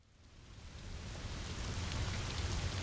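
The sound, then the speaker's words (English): Steady rain falls on a hiker as a dense, even hiss, swelling slightly louder over the first second and then holding constant, with soft pattering drops and no voices. “The next day, I had hiked for a few hours when it started to rain.”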